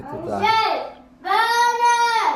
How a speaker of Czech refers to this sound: A teď tady žvatlají dvě děti.